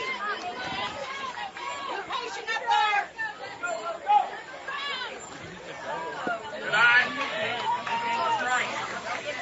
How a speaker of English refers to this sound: So after Jake Dulich, here comes Blaine Baker as he gets cheers from the crowd. They're shouting, "Let's go, BB."